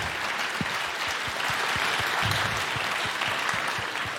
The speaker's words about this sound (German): Ein Applaus.